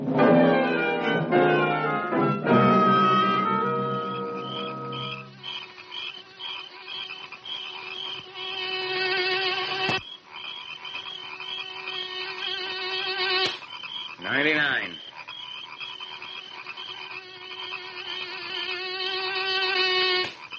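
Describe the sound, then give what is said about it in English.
A dense, whining drone of many Alaska mosquitoes buzzing at once, loud, with layered overlapping tones that waver and swell, and one wobbling pitch sweep partway through. No one speaks. “I just figured out what they feed these Alaska mosquitoes as an appetizer.”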